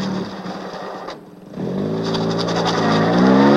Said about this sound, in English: ducks his head back into the car and closes the door. Turning around, he speeds off the way he came.